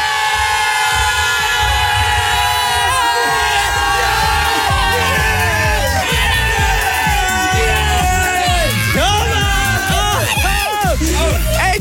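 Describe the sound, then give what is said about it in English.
A loud, dense crowd cheers continuously for Capital Breakfast's one-year anniversary show on a Friday, with rising and falling whoops and shouts breaking out over the roar, growing more excited toward the end. “It's our one-year anniversary show, and if there has ever been a time to cheer, it's now, because it's Friday!”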